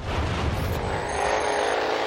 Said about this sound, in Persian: وقتی میشنوین مسابقه سرعت، به احتمال زیاد چنین چیزی به ذهنتون میرسه. هیولاهایی که نیترومتان تنفس میکنن و هزاران اسب بخار نیرو دارن. همراهش هم آتش، صدا و بوهای خوش به ذهن میان.